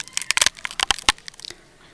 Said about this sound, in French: Croquant. Fondant.